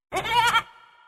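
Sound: goat bleating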